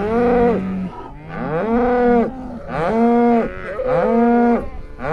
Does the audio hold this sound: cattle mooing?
yes